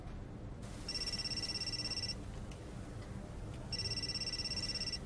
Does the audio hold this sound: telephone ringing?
yes